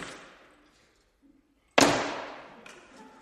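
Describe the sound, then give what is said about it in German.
The apartment door of a 28-year-old student in Zurich swings shut as he comes home, with a single sharp, fairly loud thud that rings briefly, after a fainter rustle at the start and a short quiet pause. “Und wir hier oben wissen, alle Türen, die wichtig sind, sind wieder zu.”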